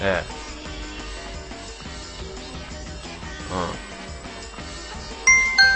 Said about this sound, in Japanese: ね、ほら今ピンポン鳴ったでしょ。